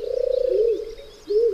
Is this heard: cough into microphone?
no